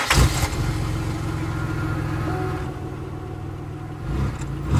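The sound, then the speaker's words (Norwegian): A car engine starts as Frode gets into the car, with a brief burst of noise, then settles into a steady, low rumbling idle that holds for several seconds, with no one speaking. “Frode slipper skuldertaket på faren og setter seg i bilen.”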